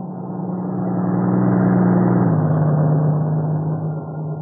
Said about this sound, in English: If it's one of the trucks from the plant in Maywood, I'll be able to tell in a minute.